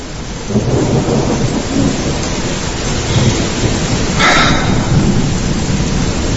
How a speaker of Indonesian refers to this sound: Di luar masih hujan. Terpaksa aku menunggu hujan reda Setelah itu barulah aku pulang.